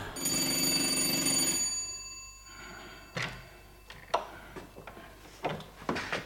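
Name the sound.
doorbell ringing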